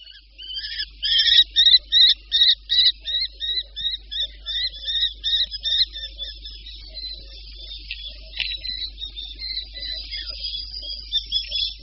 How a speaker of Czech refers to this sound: Mláďata poštolky obecné se ozývají i po vylétnutí z hnízda, kdy ještě určitou dobu rodiče krmí a kdy je také učí lovit.